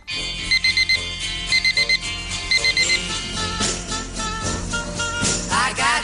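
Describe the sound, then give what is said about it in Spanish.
A digital alarm clock beeps in quick sets of four, repeating three times, bright, over a steady music bed that carries on after the beeping stops. “Un día que empieza de la manera más normal, a la misma hora, con el mismo despertador, con la misma canción sonando en la radio, como todos los días.”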